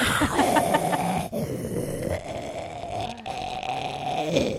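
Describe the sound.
A loud, rasping snore-like rumble into the microphone, continuing steadily for several seconds with a brief dip partway through and no talking.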